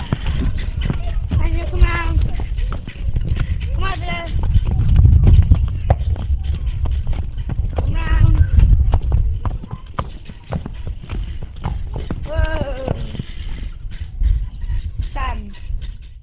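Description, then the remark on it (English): Heavy hooves of a shire horse named Daniel clop steadily at a walking pace on hard ground in the farmyard at Umberslade Farm as he is driven through a set of traffic cones, continuous, with a few brief voiced commands breaking in over the rhythmic footfalls. “here he certainly demonstrates that he is the horse's master as he drives Daniel through a set of traffic cones which have been laid out in the farmyard.”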